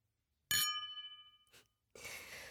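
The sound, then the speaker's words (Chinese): Glasses of red wine clink once in a toast with a bright, ringing chime that hangs in the air for about a second, followed by a soft tap and then a breathy, hissing rush of sound. “红酒，你还挺有品味的嘛。来，以后咱们就是真正的一家人了。干杯。”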